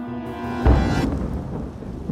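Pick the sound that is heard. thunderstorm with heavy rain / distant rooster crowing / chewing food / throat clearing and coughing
thunderstorm with heavy rain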